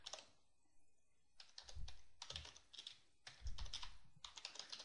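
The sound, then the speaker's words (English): Typing on a computer keyboard while adding a survey on a website: quick bursts of soft clicking keystrokes, with a short pause after the first second, then steady irregular tapping continuing to the end. No voices. “Okay, and this is the person picker, so you'll notice that as we start typing, we'll see there's the users that are on the site.”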